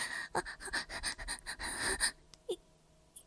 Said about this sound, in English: You like it, don't you? You're sweating and breathing harder.